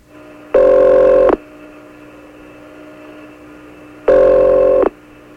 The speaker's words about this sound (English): It's 12:59, and this is WUSB in Stony Brook. We don't know what we're going to hook ourselves into. It's ringing.